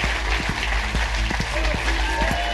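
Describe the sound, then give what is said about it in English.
A theatre audience at Leicester Theatre applauds the comedian Alan Davies steadily, a dense wash of many hands clapping at an even loudness, with a few cheers and voices mixed in throughout. “Will you give a massive round of applause to the amazing Alan Davies?”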